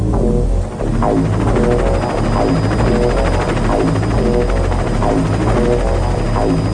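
A helicopter circling overhead: its rotor chops steadily and loudly, a continuous rhythmic thudding wrapped in engine roar, with no voices.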